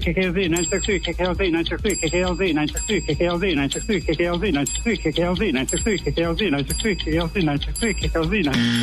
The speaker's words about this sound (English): I couldn't hit the bell fast enough